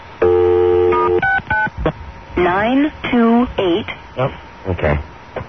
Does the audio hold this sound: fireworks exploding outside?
no